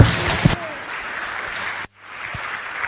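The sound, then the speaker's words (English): An audience breaks into a dense wash of steady clapping that carries on for a couple of seconds, cuts out abruptly for a moment, then resumes at a slightly softer level. “Big round of applause.”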